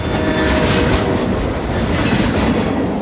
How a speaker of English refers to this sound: You hear that? That's the sound of 68 million shopping carts being filled, 275,000 homes being built. Yep, that's the sound of a CSX train doing its part to move the economy forward. Sounds pretty good.